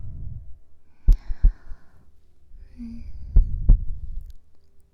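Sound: heartbeat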